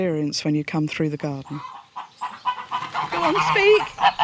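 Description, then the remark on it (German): A quick run of about six loud, nasal honks, then a busy jumble of clucking and squawking poultry as free-range geese and chickens are shooed out of the way in a garden. “scheucht ihre glücklichen, freilebenden Hühner und Gänse aus dem Weg.”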